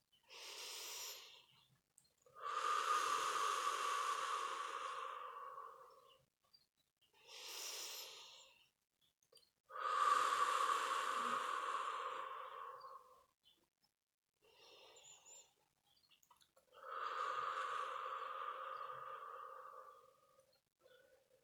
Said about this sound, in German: Atmen nun dreimal tiefer ein und aus.